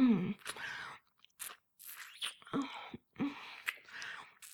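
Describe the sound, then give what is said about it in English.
Wet mouth noises of a woman performing oral sex on a man: smacking, sucking and slurping in irregular bursts separated by brief pauses, fairly loud and intimate, with no one speaking. “Sucking, slurping, licking your big hard cock.”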